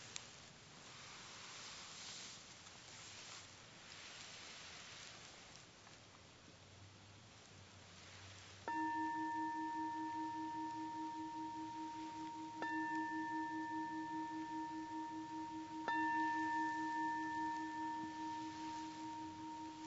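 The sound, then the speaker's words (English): A meditation bell is struck three times at a steady pace, each clear, ringing tone sustaining and overlapping the next, over a soft, rain-like hiss with no talking. “And then let go of this exercise and spend about 3 breaths with the breath, being aware of the breathing, and then I'll ring the bell.”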